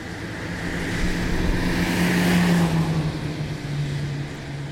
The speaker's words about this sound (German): Auf einer Autostrasse tönt es so. Auf einer Autobahn tönt es so.